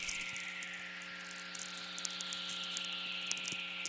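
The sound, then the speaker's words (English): A single long radio whistler from a lightning bolt's electromagnetic pulse that travelled to the opposite hemisphere and back, a smooth descending tone gliding down over several seconds, set against steady electrical hum with scattered crackling static clicks. “And in making this long trip, the frequency components are spread out, so you get this downward falling tone, like a sigh or a hiss.”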